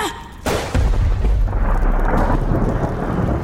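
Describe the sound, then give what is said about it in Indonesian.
A sudden sharp crack of lightning fired by Jalana bursts in, creating a big explosion: a heavy, rumbling boom that rolls on loudly with a rain-like hiss underneath, no voices present. “Petir yang ditembakkan Jalana menciptakan sebuah ledakan besar.”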